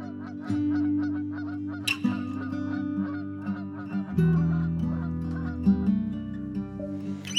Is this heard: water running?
no